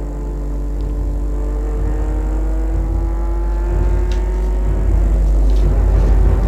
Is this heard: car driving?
yes